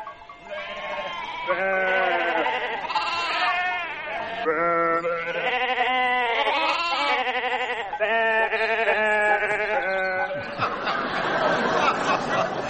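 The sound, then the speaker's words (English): A flock of sheep bleats in overlapping, wavering cries that rise and fall like a tune, loud, continuing steadily before dissolving into a rougher jumble of bleating at the end. “Rather an uninspiring choice of tune for a flock of sheep.”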